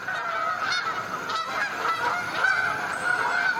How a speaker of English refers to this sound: Step outside and you might hear them, migrating after dark or flying above the clouds, invisible. The rhythmic honking of Canada geese is what you probably hear most often.